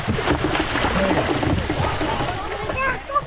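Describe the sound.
Steady splashing and sloshing of kayak paddles working through canal water during an Offaly Sports Partnership kayaking session at Belmount, with a busy mix of children's voices chattering over the top at moderate loudness.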